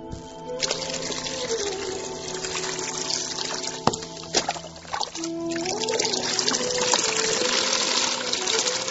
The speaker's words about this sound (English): Outside, the rain is falling like pillars of water.